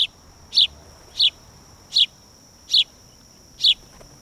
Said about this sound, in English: Thanks to a well-meaning but misguided soul, the house sparrow was first introduced into the U.S. from England in the 1850s, and it's now one of the most common birds in North America.